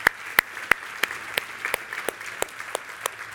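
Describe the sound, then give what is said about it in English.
Steady applause from a group, with one set of sharp, evenly spaced claps standing out in a quick regular rhythm above the softer patter of the rest, moderately loud with no talking. “There's we can clap for that.”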